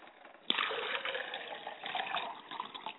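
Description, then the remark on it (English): Water is poured steadily into a glass as an offering for a mother's spirit, beginning with a sudden splash and continuing as a bubbling, uneven stream for a few seconds. No one speaks. “I pour a glass of water for my mother's spirit.”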